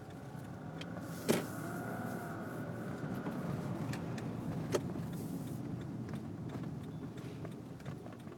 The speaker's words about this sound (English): Can I inch my way through? Yeah, okay. Maybe, but I probably shouldn't hit this lady in her stroller. And I probably shouldn't. Let's see if we can inch through here without banging up my car.